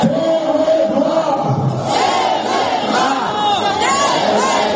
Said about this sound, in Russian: Несколько тысяч человек, несмотря на мороз и сильный ветер, вышли на площадь к Томскому дворцу спорта. Люди кричат «руки прочь от ТВ-2» и «позор томской власти».